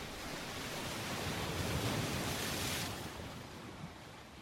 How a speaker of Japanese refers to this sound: 波の音が近づいてくる。